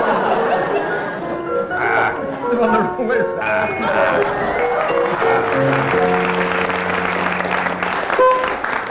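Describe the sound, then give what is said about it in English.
A loud, sustained round of applause from a studio audience, steady clapping filling the whole stretch with cheering and laughing voices mixed in throughout, marking that Barry Cryer and Graham Garden appear to have dressed the doll first. “Well, that round of applause indicates to you that Barry Cryer and Graham Garden appear to have dressed the doll first.”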